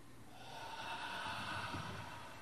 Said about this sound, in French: Et on recommence, si vous voulez bien. Et avec la respiration, donc je me tais. Et je expire.